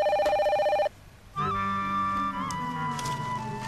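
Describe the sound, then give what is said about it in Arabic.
A telephone rings with a rapid, trilling electronic tone for just under a second, then stops; after a brief pause, a steady tonal, music-like sound carries on to the end. “ألو ألو ألو، ما كان عم بدق التليفون.”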